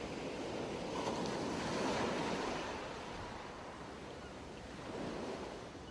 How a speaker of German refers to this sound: Du hörst das Rauschen der Wellen und das Kreischen entfernter Möwen.